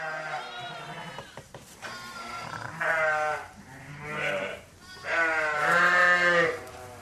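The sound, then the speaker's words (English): Ewes and lambs bleat loudly and almost continuously in a busy sheep shed during the lambing season at the end of February, several overlapping calls rising and falling over one another, with a few quieter bleats and shuffling in between. “It's mayhem here in the sheep shed. There are yows and lambs everywhere.”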